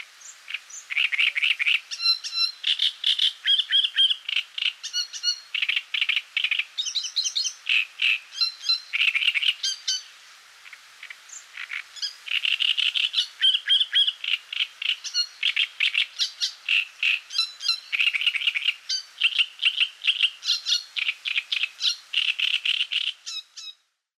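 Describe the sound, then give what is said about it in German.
A male great reed warbler sings loudly, marking its territory with a harsh, creaking song of rapid grating phrases repeated in bursts, with a short pause midway and no voices. “Das Drosselrohrsängermännchen markiert mit lautstarker, knarrender Stimme sein Revier.”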